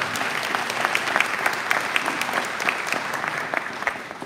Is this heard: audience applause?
yes